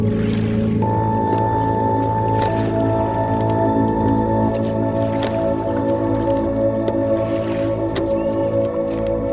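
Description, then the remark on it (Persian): Slow oar strokes of a boat being rowed on a lake splash and swish through the water every couple of seconds, a few soft drips between them, all set against a steady droning musical tone with no voices. “نوری تو قایق داره پارو میزنه.”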